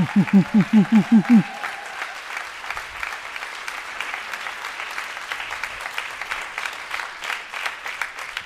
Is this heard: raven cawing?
no